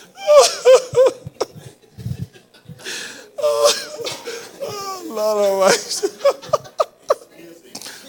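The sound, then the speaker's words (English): A voice imitates snoring, a series of wheezy, whistling breaths and pitched snorts rising and falling in uneven bursts, fairly loud, with a few short pauses between them. “Look at how she is sleeping beautifully. Only a little bit of snoring.”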